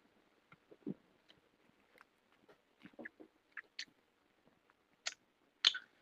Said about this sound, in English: Okay. Go ahead and give it a little sip.